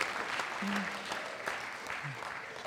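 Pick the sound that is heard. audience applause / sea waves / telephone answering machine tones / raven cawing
audience applause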